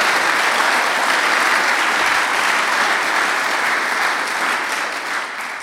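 Sustained audience applause in Langenthal welcoming a guest, a dense, steady wash of many hands clapping at constant loudness for several seconds, tapering slightly at the end, with no voices.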